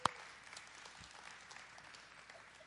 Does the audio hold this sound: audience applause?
yes